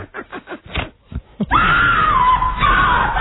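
A man lets out a loud, sustained scream lasting nearly two seconds, preceded by a few short, choppy vocal bursts, strained, with the pitch wavering slightly as it holds.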